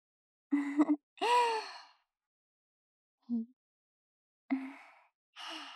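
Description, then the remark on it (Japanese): A big voiced yawn: a sharp intake, then a drawn-out exhale whose pitch rises and sinks. Softer breathy sighs follow after a pause, with no talking. “すみません、大きなあくびが。”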